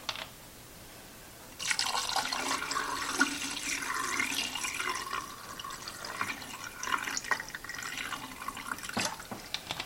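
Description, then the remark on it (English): Fixer liquid is poured steadily into a film developing tank, a continuous splashing, gurgling rush that starts abruptly after a moment of quiet and runs on without pause. No one speaks. “And the fixer is next. Again, this is something that we can reuse, so I'm just going to pour it straight in.”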